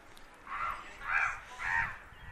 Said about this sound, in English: We got bird noises.